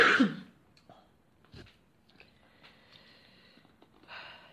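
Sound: coughing and throat clearing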